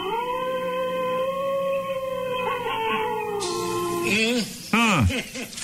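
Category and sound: vocal imitation, imitated wolf howl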